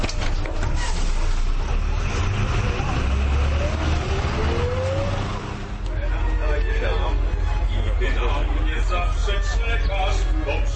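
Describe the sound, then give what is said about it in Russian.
A steady, loud engine rumble fills the inside of a moving modern Jelcz city bus, with a rising whine as it accelerates, plus rattles and faint, indistinct voices in the background. “До места, где состоится показ старинных автобусов марки «Елч», еду автобусом этой же марки, только современным.”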